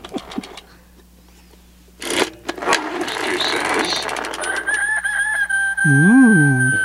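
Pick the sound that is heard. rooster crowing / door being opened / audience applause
rooster crowing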